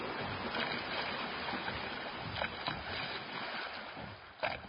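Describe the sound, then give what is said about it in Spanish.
Sea water washes and sloshes steadily around a boat, a continuous churning with a few sharper splashes breaking through near the end. No one speaks. “¿Quién es este que hasta el viento y al mar le obedecen?”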